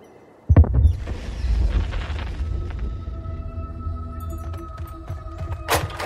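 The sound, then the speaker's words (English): A gunshot from hunters up on the hill near the cell phone tower cracks out as a sudden low boom, then echoes into a long rolling rumble. A fainter, sharper burst follows near the end, with no voices. “Gunshots. I think up near the cell phone tower, up on the hill.”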